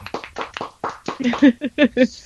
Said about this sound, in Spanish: Está muy bien. Un aplauso. ¡Bravo!